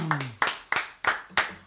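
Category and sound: crowd, applause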